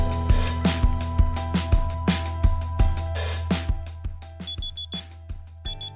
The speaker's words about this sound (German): Ja, ich weiß, fies, wenn der Wecker wieder früher klingelt und man auch vielleicht die Snooze-Taste nur noch maximal dreimal drücken kann.